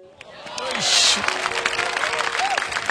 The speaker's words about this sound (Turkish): Valla sahne hani atmosferini burada sana yaşatamıyoruz ama alttan alkışlar var.